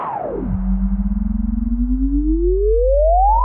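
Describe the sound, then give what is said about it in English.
Two electronic test tones play together, a deep bass hum beneath a higher tone, producing a loud pulsing wobble; the upper tone swoops down at the start and later glides steadily upward. “Test number two. Sideband effect. 40 and 184.”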